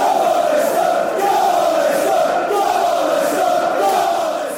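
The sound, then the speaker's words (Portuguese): A large crowd of Leicester football fans chants together in unison for their team, a loud, sustained wall of voices whose melody swells and dips in a steady rhythm without pause. “Vamos, Leicester, gritam os adeptos da equipa.”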